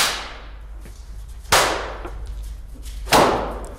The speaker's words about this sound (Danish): Det er mig som performer, som pisker et hvidt lærred med en pisk, der er smurt ind i kul.